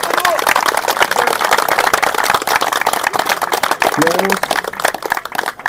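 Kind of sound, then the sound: crowd, audience applauding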